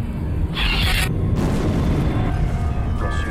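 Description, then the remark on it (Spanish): A deafening explosion in the town of Santa Rosa in 1993 booms with a deep rumbling roar filling the whole stretch, with a brief hissing burst near the start and no voices. The blast broke windows and destroyed 16 houses. “una ensordecedora explosión expone un terrible secreto y revela evidencias”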